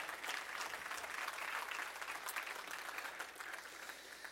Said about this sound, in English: Oh, give God a hand clap of praise if you don't mind.